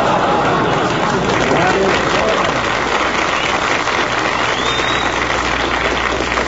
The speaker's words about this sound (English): That's the corned beef crowd applauding us.